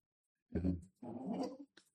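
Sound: dog making noise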